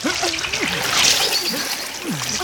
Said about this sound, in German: Die Strömung hier ist ja viel zu stark. Das ist doch vollkommen wahnsinnig.